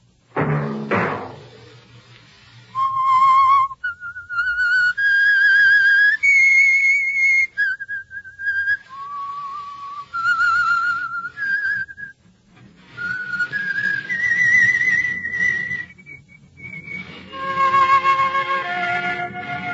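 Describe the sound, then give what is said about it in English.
A lone whistler carries the slow, haunting theme melody of the Signal Oil radio program The Whistler, sustained, gliding notes that rise and fall in pitch, clear and fairly loud, after a brief thump at the very start. “Be your signal for the Signal Oil program, The Whistler, each Wednesday night at this same time.”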